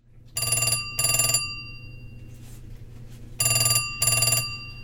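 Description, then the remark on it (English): A telephone, called directly rather than over a Bluetooth link, rings in two paired bursts, a double ring, then a pause, then another double ring, with a steady low hum underneath. Clear, with no talking. “Okay, let's call the same phone that we just used on the Bluetooth link directly, which should sound a lot better.”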